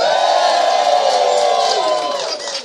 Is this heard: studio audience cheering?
yes